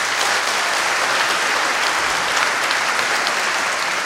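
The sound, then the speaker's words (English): An audience claps steadily for about four seconds, a dense, even wash of many hands with no voices, holding at a fairly loud level throughout. They clap when asked whether Donald Trump would beat Bernie Sanders in a presidential election. “So if you think Donald Trump would beat Bernie Sanders in a presidential election, please clap now.”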